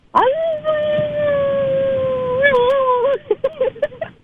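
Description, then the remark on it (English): A man imitating a wolf howls at the moon at night in a yard, a long, steady howl lasting about three seconds, wavering slightly near the end, followed by a few short voiced bursts. “And then next thing you know, he started howling at the moon and started talking about, oh, I'm a wolf dog.”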